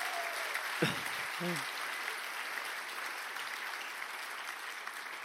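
An audience in a church applauds a band, with dense, steady clapping that holds at an even level for the whole stretch. A couple of brief vocal sounds poke through early on.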